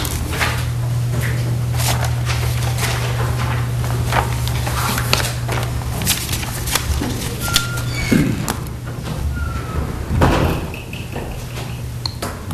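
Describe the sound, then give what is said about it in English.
A door of a council chamber swings shut with a solid thud partway through as candidates step out, amid a steady low hum, shuffling footsteps and scattered small knocks. “Shut the door there, too.”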